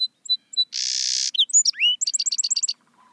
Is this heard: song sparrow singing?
yes